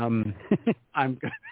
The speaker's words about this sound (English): And so I was just seeing a whole lot of a tiny cat and a large cat bopping each other on the head right now.